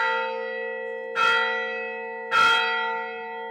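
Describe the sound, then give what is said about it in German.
The bell of St. Catherine's Monastery, about 1600 metres above sea level in the south of Egypt's Sinai Peninsula, strikes twelve noon for the midday Mass. Two strikes are heard about a second apart, each a bright metallic clang over a steady, humming ring of overlapping tones that lingers between strikes. No voices are heard. “Schlag 12 Uhr. Zeit für die Mittagsmesse im Katharinenkloster.”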